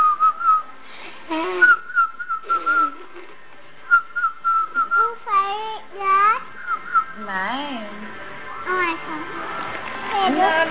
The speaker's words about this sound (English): Whistle baby. Whistle baby. Whistle baby.